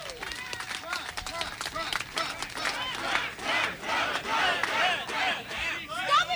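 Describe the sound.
An audience cheers and claps continuously as the fourth runner-up is announced, with many excited voices shouting and whooping over a dense wash of applause. The noise stays loud throughout, swelling slightly toward the end.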